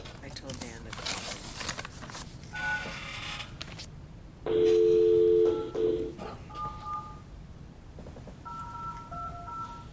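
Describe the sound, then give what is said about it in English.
Phone keypad dialing tones as someone calls on a phone: one loud, sustained dual-pitched beep, then several shorter, softer button tones at an uneven pace, following rustling handling noise and faint background murmur. “Or just call her on your phone.”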